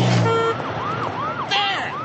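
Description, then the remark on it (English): A wailing emergency siren, used as a sound effect to evoke a city, sweeps up and down in steady, repeating arcs over a low rumble of traffic, with a brief horn-like tone near the start and no voices. “Simple sound effect, and you've got the city.”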